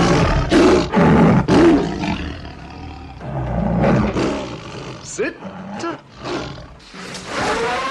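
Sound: lion roaring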